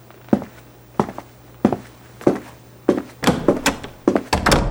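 Several evenly paced footsteps thud on a hard floor, followed by a cluster of louder knocks and clunks as a door is pulled shut, with no one speaking.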